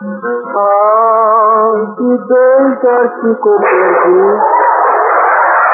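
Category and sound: signal or alarm, gong struck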